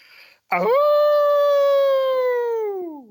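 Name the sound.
person imitating a howl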